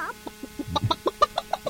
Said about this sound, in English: Nothing works in these shows unless you have a good chicken, you know, good chicken sound. You have to have that.